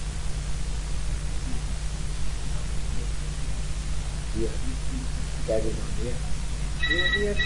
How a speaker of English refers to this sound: Why don't you take the telephone off of you? Oh, I see. Oh, that's your phone. No, it's alright.